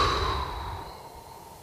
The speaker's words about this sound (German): Tief einatmen, den Atem halten, halten, halten und dann gut und hörbar weit ausatmen.